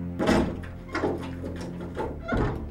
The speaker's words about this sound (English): He's locked the door.